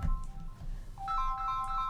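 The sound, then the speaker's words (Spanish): A melodic phone ringtone plays a bright, repeating sequence of high electronic tones, moderately loud over a low background rumble, with no talking. “Ese teléfono me arruinó la introducción.”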